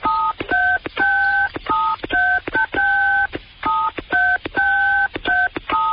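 Touch-tone phone keypad beeps pressed in a rhythmic sequence, picking out the riff of a song; loud, close, clear dual-tone notes of varying length with short gaps, no talking.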